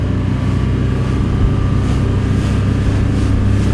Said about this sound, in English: Cold North Sea waves crashed against our boat and splashed our faces until we reached the platform, actually below it, with Prince Michael at the helm.